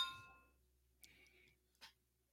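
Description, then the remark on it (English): Glasses of milk stout beer clink together in a toast, giving a bright ringing tone that fades quickly, followed by a couple of softer knocks and a brief rustle, with no talking. “All right, well, let's cheers it up. Well, let's cheers.”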